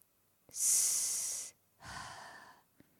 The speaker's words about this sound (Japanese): 緊張せずに。ほら、深呼吸してごらん。